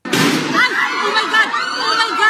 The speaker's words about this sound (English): The gunshots echo through the halls of the Philippine Senate, politicians and journalists running for cover.